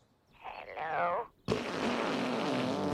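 Toilet flushing sounds strung together like a song: a wobbly, gurgling tone swells for about a second, breaks off briefly, then a loud, steady rush of water carries on to the end.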